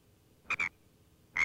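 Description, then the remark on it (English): A frog croaks in short, raspy double bursts, one pair near the start and another at the end, with quiet pauses between. The calls are fairly loud, with no talking. “A frog.”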